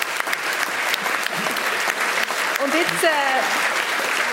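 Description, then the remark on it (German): An audience claps steadily in a dense, sustained burst of applause, with a few voices and whoops rising over the clapping toward the end. “hat jetzt einen Applaus verdient, oder?”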